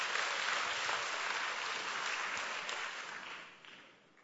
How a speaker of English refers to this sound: Hello? Are you with me? That's right. Clap means clap properly. Right.